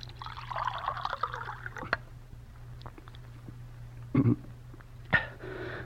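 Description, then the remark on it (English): Water is poured for about two seconds with a soft, splashing trickle, followed by quieter stillness and a couple of brief knocks or clinks, all over a faint low hum. “Now some water.”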